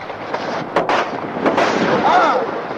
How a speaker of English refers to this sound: Why did you shoot me?